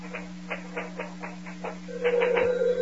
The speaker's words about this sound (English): You go on with those letters. I'll answer this phone.